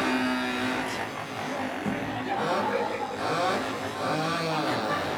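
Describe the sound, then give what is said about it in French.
A crowd of voices imitates buzzing moped engines as a vocal sound-effect rendition of a song, with rising and falling revving whines layered over one another in a steady, noisy wash of sound. “Voilà, on entend déjà les mobilettes.”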